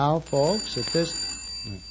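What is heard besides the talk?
telephone bell ringing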